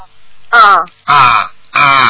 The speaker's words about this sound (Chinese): 是的， 怎么像澳洲鸟叫啊？